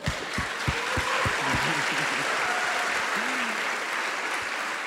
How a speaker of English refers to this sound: Thank you. We should give him an applause.